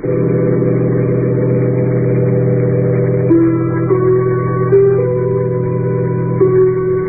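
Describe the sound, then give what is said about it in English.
A bus engine drones steadily, then its pitch climbs in a few stepped surges as it pulls away and gathers speed, a continuous low rumble with no voices. “I'm getting off the bus.”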